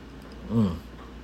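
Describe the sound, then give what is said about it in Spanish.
A single quick sip of Red Label whisky, with a soft throaty gulp lasting a fraction of a second against a quiet background; no one speaks. “Coño, estoy dando un traguito aquí, ustedes saben, un Red Label.”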